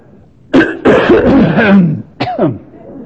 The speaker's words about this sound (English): Then, if the sound man will just turn down the microphone, I'll give one good great cough without any help.